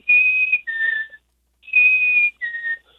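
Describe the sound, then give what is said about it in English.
A person whistles the two-note song of a male chickadee twice: a clear higher note sliding to a slightly lower one, with a short pause between repeats. No talking. “And that's the little male chickadee.”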